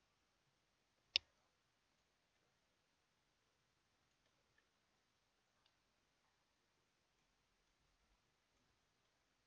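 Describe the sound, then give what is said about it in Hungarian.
A single sharp computer mouse click rings out amid quiet, followed a few seconds later by a couple of much fainter, softer clicks, as the Ctrl key is held and an unwanted edit point on a boundary line is clicked to remove it. “Lenyomjuk a Ctrl gombot, majd rákattintunk a nem kívánt szerkesztő pontra.”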